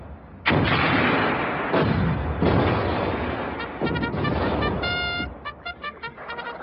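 Artillery cannons fire four heavy, booming blasts one after another, each rolling off into a rumble, followed by a string of short, clipped tonal bursts near the end.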